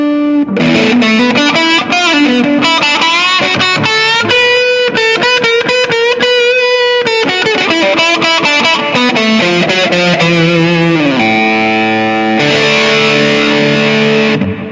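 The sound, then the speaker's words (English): Bright, heavily fuzzed electric guitar on its treble pickup, with the fuzz level turned up, plays loud single-note lines with long, buzzing sustained notes, continuous with no voices; any reverb comes from a Ghost Echo pedal. “Then I'll try the treble pickup. Bring the fuzz level up.”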